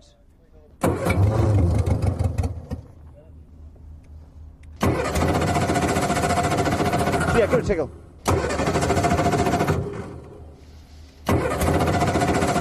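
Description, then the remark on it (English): An engine cranks loudly in four separate attempts, each a sustained churning burst that cuts off without catching. Brief pauses fall between tries, and a voice speaks briefly. “The absence of that happy purring engine sound is making the yellow team a little anxious.”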